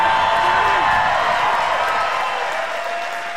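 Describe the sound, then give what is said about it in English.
A large crowd in Kenosha, at the University of Wisconsin Parkside venue, cheers loudly and steadily, a dense roar of voices with whoops and scattered clapping, holding strong before easing off slightly toward the end. “Wow, what a crowd.”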